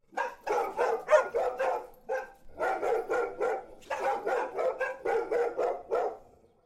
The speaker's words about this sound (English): dogs seemed to now be full of energy, immediately up from their slumber and staring intently at both Oliver and Ruth down with a low growl